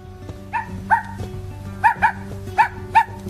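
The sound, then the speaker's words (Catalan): A small dog, given to a boy as a present by his mother, gives six short, high-pitched barks, loosely paired and evenly spaced, over a steady low droning background. “El nen aparta el regal que li ha fet la mare perquè no li sembla interessant aquest gos i continua jugant amb les maquinetes.”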